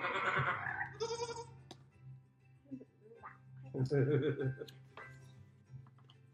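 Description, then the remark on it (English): A person's voice runs through a quick series of farm animal call imitations (oink, quack, bah, moo, cluck, peep, nay, croak), including a bleat-like cry. The short, fairly loud calls come one after another with little pause. “Everybody scrambled to jump inside. Oink, quack, bah, moo, cluck, peep, nay, croak.”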